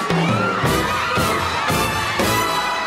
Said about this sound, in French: les … sont acclamés par la foule. Certains se sont levés aux aurores pour apercevoir leurs héros, ces jazzmen américains. On leur jette des fleurs, des jeunes filles en kimono hurlent à plein poumon.